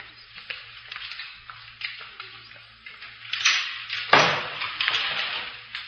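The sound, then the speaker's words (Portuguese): A door is pushed shut with a single dull thud about two-thirds of the way through, preceded by faint shuffling and rustling over a steady low hum and hiss. “queres fazer o favor de fechar a porta?”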